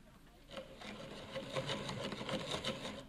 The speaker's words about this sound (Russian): Ну, надо устроить вентиляцию. Конечно. А если просверлить несколько маленьких дырочек в коробке, то углекислый газ будет выходить ведь из инкубатора, а? Правильно. Ну-ка, дай-ка сюда сверло.